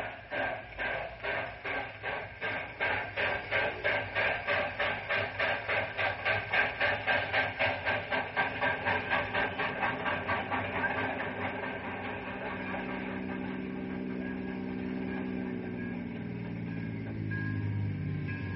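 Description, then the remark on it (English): A steam locomotive pulls the morning southbound train away, its loud rhythmic chuffs quickening before blending into a steady rolling rumble as the train gathers speed, with a rising mechanical whine near the end. “He's in the caboose of the morning southbound.”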